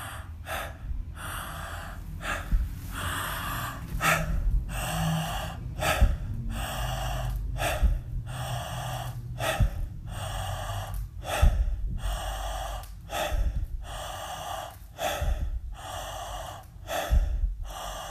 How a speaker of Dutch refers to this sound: En wat kan helpen is het volgen van je ademhaling. Simpelweg aanschouwen, het observeren van je in- en je uitademing. Terwijl je doorademt.